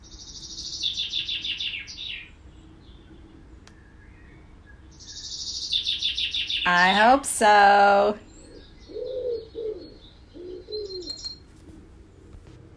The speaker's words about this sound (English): Those were actually birds from YouTube and not real birds.